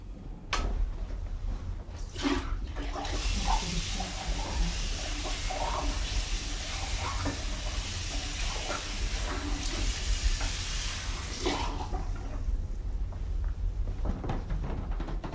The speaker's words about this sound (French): Je vais mettre maintenant de l'eau propre encore.